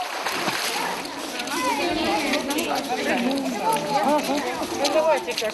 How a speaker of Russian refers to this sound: На территории Горнего Посада есть бассейн, где можно отдохнуть от дневного зноя, поплавать, побултыхаться. Бассейн приносит детям массу положительных эмоций и пользу организму.